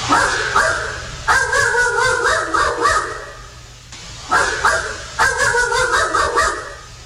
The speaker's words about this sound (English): And we got a dog barking EVP. So I'll play both of them. They're about 7 seconds total. Here we go.